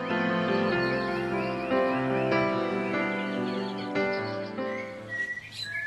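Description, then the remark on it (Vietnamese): A bird sings a sweet, continuous melodic song of whistled notes and chirps, fairly loud and close, with quicker fluttering trills near the end and no voices. “Ôi, con chim đẹp quá, lại còn hót hay nữa chứ.”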